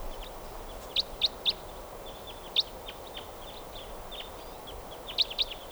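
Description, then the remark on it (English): A type 4 crossbill flying over calls in short, sharp high-pitched notes: a quick run of three, a single note, then a pair, over a steady hiss of background noise with no talking. “Oh, and a type 4 bird happens to be flying over right now.”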